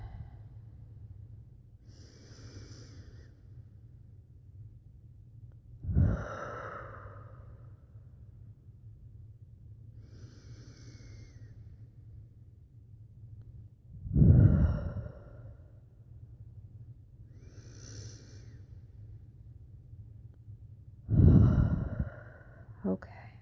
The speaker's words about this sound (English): Now close your eyes. Take a few deep breaths in and out.